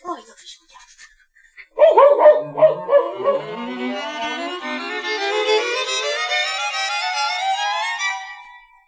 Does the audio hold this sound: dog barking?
yes